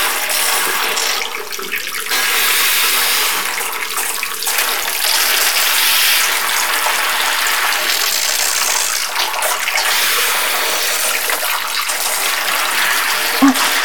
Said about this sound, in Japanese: ちょっと待ってね。今シャワー出すから。うん。温度もちょうどいいかな。じゃ、泡を流しちゃいまーす。